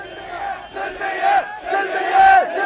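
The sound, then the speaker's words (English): A protest crowd in Bahrain chants "Salmiya, Salmiya" (peaceful, peaceful) in unison, many voices rising and falling in repeated rhythmic phrases, loud and sustained with swelling peaks. “The crowd chanted, Salmiya, Salmiya, peaceful, peaceful.”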